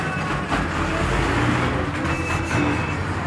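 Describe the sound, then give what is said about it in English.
A bus engine rumbles steadily amid continuous road traffic, a dense low roar with faint higher tones drifting through, no voices present. “I hop off the bus.”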